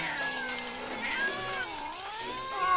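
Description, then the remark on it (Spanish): A chorus of out-of-tune cat meows from a gang of cats at night: several wavering, overlapping yowls rising and falling continuously, fairly loud, with no talking. “Esa noche, justo cuando estaba a punto de ser devorado por una cucaracha gigante en medio de una pesadilla, me despertó un coro de maullidos desafinados.”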